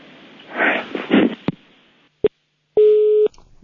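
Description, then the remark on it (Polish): A telephone busy tone over the line after a female listener who called in hangs up: a sharp click, a brief beep, then a longer steady electronic tone, after some muffled handling noise. No one speaks. “No i rozłączyła się nam słuchaczka.”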